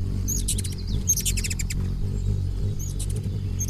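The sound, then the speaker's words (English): A male hummingbird's courtship display to a female: high, thin cricket-like chirps burst out in quick clustered trills, three bursts over a few seconds, above a steady low buzz of its wings as it flies back and forth in a pendulum-like arc. “Males greet females with a remarkable aerial performance, flying back and forth in a perfect arc, like a pendulum suspended on an invisible wire, and accompanied by buzzing wings and cricket-like chirps.”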